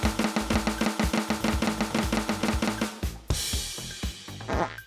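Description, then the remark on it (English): A rapid run of evenly spaced, punchy hits like an improvised drum roll, fairly loud, ending in a brighter, noisy crash-like flourish around the last couple of seconds. “There we go. That's our drum roll.”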